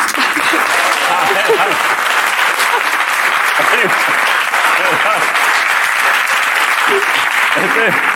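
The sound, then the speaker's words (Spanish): Loud, sustained applause from a sizeable audience fills the whole stretch as a dense, steady clatter, with voices faintly audible beneath it. “Mientras más aplaudo me pongo más nerviosa, pero no pasa nada, ¿eh?”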